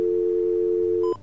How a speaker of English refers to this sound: Now, we're going to take our little pulsating dial tone here. All right, turn it into a regular dial tone.